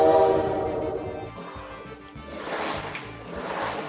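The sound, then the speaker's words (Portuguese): A powerful motorcycle from the neighbourhood passes outside. Its engine roars past with a loud droning growl and a strong tonal whine that dips briefly, then swells again into a rougher, hissing rumble. No one speaks. “Rapaz, que moto potente. Vocês estão ouvindo?”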